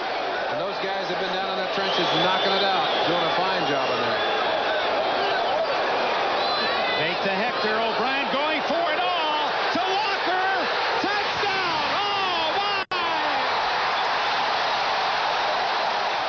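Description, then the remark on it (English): A huge stadium crowd at a football game involving the Jets roars continuously, a dense wall of cheering and shouting voices with whoops rising out of it, loud and sustained, briefly cut off near the end before surging again. “Lay out, let the crowd talk.”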